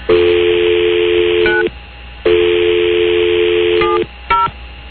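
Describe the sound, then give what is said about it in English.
A steady telephone dial tone hums, broken by short bursts of keypad beeps as a number is punched in to call someone at home, then the tone resumes before a few more quick button tones. “I'll call him right now.”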